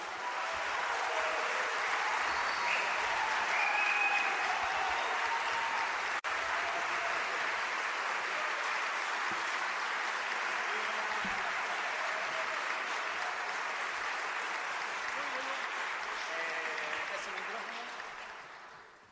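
A crowd claps steadily for about eighteen seconds, a dense, even wash of applause that holds at a constant level before fading out at the end.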